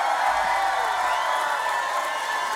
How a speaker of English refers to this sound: Please give a big round of applause to one of the best bands in the land right here.